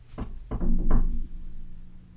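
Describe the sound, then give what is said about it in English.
Three hollow knocks on wood, done just in case for the knock-on-wood superstition, in an uneven rhythm, each a dull, fairly loud thump with a short low ring, followed by quiet. No one speaks. “All right, well, let's go true and knock on some wood.”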